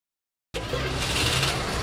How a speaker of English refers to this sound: Rev up the engine, throw that truck into gear, and be careful, don't shake the tomatoes off the vine.